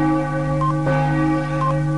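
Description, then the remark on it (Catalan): A large wall clock strikes six o'clock in the evening with a deep, resonant chime; a single stroke rings out over lingering, sustained bell-like tones, fairly loud, with no voices. “En aquest moment, el gran rellotge de la paret toca, en aquest precís moment, les 6 de la tarda.”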